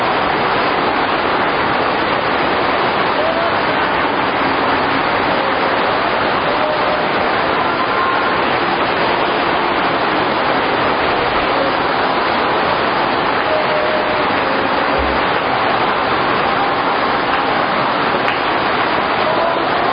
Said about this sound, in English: He's trying to resist us with the rain, but we'll get to it.